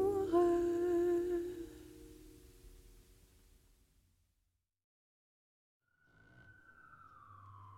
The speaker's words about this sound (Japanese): ちょうど今の曲を聴いてる途中から外のサイレンがすごくなって、どうしようとかあの通り過ぎ去ってくれてよかった